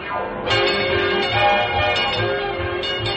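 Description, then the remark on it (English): A trolley bell clangs several times in uneven succession, each strike loud with a bright metallic ring that lingers and overlaps the next, with no voices. “Clang, clang, clang went the trolley. Ding, ding, ding went the bell.”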